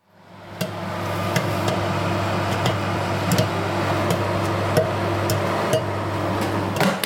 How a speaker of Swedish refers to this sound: Och först ska det förstås poppas popcorn i mikron till filmkvällen.